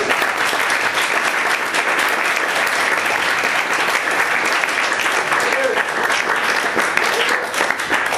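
Sustained audience applause at an IMMR meeting, a dense, steady wash of many hands clapping at an even loudness for about eight seconds, with no voices standing out.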